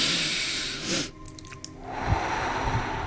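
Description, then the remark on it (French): A long, deep inhale taken during a guided group breathing exercise, a rushing breathy hiss that swells and fades, followed by softer airy breathing with light low thumps. “On le fait ensemble, donc on inspire.”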